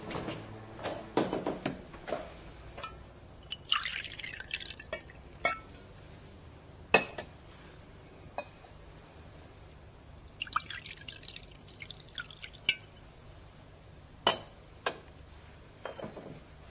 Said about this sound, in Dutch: En kelkjes, die zeven, die ga ik nu met water vullen.